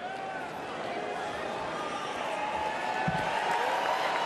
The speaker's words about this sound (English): Delegates are hearing from a lot of speakers tonight, but someone who said nothing may have gotten the biggest cheer so far. I know that a lot of you want to meet my little buddy. So if Baby Dog could come on out here.